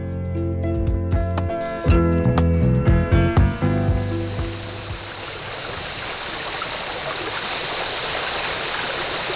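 A brief musical passage with plucked, tonal notes gives way to a steady rush of flowing stream water that continues alone, even and unbroken, to the end.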